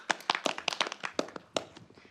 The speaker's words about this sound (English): Give him a round of applause, everyone. Let's encourage him.